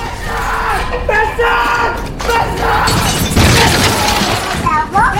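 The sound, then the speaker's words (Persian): A chair is hurled down from the upper floor and crashes, a loud, sustained clatter of smashing and banging with breaking sounds, while voices shout over the din. “صندلی رو از طبقه بالا پرت میکنه پایین.”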